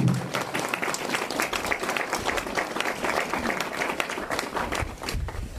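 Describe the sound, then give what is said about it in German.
Sustained applause from an audience after a blessing at the opening ceremony of a house, a dense steady patter of many hands clapping at even loudness for several seconds, with a faint murmur of voices mixed in. “Jetzt ein Applaus, jawohl.”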